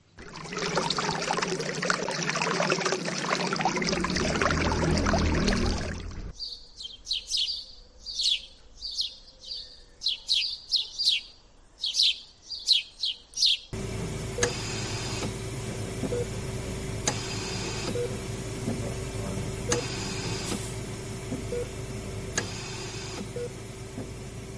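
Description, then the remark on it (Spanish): Water rushes in a lone fountain, then birds chirp and tweet in quick, repeated bursts against a hushed background in empty city streets during the strictest pandemic lockdown, giving way to the steady mechanical hum of a ventilator. No one speaks. “Por este orden hemos escuchado, grabado en los días de confinamiento más severo, el agua en las fuentes solitarias, los pájaros que ocupaban todas las ciudades, todas las calles, y por último un respirador cuando más dura estaba la pandemia”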